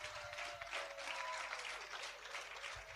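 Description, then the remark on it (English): Sustained applause from a church crowd clapping for the speaker's wife as she is invited up to say hello, a dense steady wash of many hands clapping at a fairly even level throughout, with no voices standing out. “Can we clap for her?”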